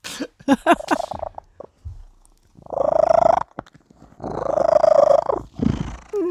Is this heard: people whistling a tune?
no